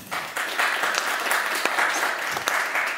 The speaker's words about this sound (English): So a round of applause for you guys.